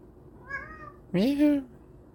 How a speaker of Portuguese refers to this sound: Gato miou, já me distraiu. Olha aí.